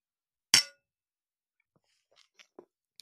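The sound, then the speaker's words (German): A single sharp clink of drinking glasses tapped together in a toast to love, loud, followed by a few faint small knocks and rustles in otherwise quiet surroundings. “Worauf trinken wir? Auf die Liebe. Den Motor und Antrieb für alles. Prost, ne? Prost,”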